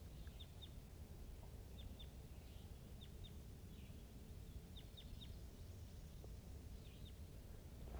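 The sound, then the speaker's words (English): A wild crossbill calls from the distance, to the east of the net side up on the top of the hill, giving faint, sharp, high chip notes in twos and threes, repeated every second or so over a steady low rumble of background noise. “This is a wild crossbill to the east of the net side up on the top of the hill calling from the distance.”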